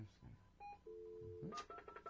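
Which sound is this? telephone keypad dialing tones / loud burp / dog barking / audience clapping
telephone keypad dialing tones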